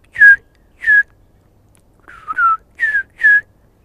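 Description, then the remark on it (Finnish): A person whistles with the lips an imitation of a Eurasian bullfinch call: five short, soft, downward-sliding piping notes in an uneven series, clear, with no talking. “Siihen just tommonen vihellys se on, että.”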